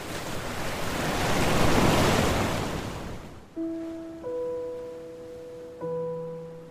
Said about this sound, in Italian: E si volta a studiare le onde.